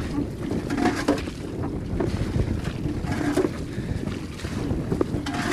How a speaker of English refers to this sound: Now the day is extremely cold and wind is blowing and it's raining and we're in a boat. Travelling out on a boat. Now we're approaching the island,